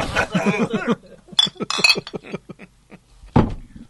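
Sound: glasses clinking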